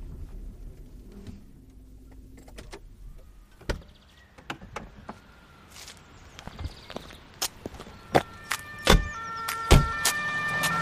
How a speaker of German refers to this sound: Tatü, tata, da kommt gerade noch ein neuer Patient mit dem Krankenwagen. Vielleicht ist ein Unfall passiert.